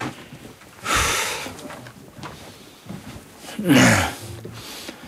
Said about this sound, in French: La respiration est de plus en plus difficile. Oui. Ça devient irrespirable.